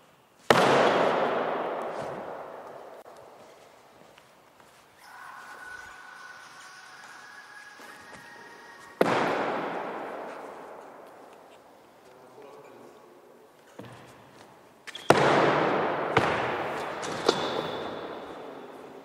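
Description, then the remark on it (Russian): A weighted ball, thrown from a squatting position as an exercise, slams down hard several times, each sharp thud ringing out with a long echo, with quieter shuffling between the impacts. “Следующее упражнение. Метание мяча с положения присед.”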